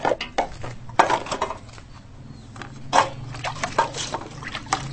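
Metal pots and spoons clatter and clink irregularly as they're washed, with bright scraping knocks over a low background hum and occasional splashes of water. No one speaks.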